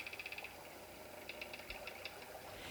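Boats swaying on the water, with quick rhythmic creaking squeaks in short bursts over a steady, low background wash. No one speaks.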